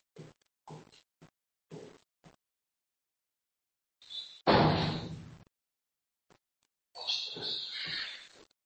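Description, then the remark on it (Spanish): A door is pushed shut with a solid, thumping slam, preceded by a few light clicks and followed by a brief scraping rattle as it settles. “Pues voy a tocar la puerta un segundito.”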